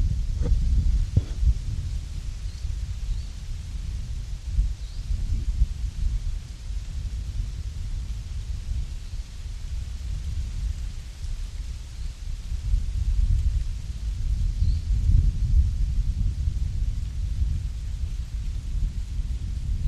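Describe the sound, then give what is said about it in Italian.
Wind blows steadily through the leaves of beech trees before they fall, a soft continuous rustle over a deep, gusty rumble that swells and eases without any voices. “Bellissimo il suono del vento che accarezza le fronde dei faggi prima che perdano le foglie.”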